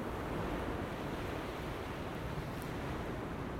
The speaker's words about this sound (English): So I freed it, I let it go into the wind and where it takes it, nobody knows. But certainly this is extremely strong. I mean, the trees, when it really gusts, the trees are bending way over.